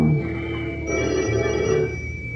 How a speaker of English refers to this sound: Maybe I should just go over and take it off the hook. But stop the ringing. Would it? Well, yes, obviously. I don't think it would stop the ringing.